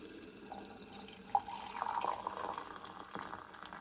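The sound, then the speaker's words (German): Boiled water pours steadily over apple peels to make tea, a soft continuous splashing with a few brief drips and clinks, fairly quiet, with no one speaking. “Ich koche ein wenig Wasser und gieße es über die Apfelschalen.”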